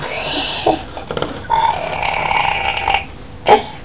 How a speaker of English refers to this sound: Burp. Burp.